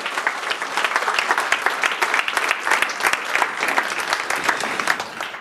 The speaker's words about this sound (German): Super Abschluss für diese Abschlusspräsentation von JugendHack 2020. Euer Applaus nochmal. Ihr dürft von der Bühne.